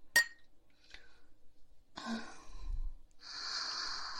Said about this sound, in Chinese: 来，干杯，臭弟弟。